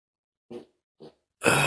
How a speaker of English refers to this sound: Farted.